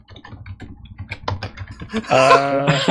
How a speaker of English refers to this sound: typing in Google right now.